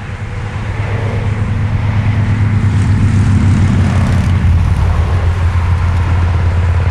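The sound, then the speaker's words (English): A droning engine swells in loudness and holds steady as a vehicle passes, its low humming pitch sliding downward about two-thirds of the way through. No voices. “The Doppler effect”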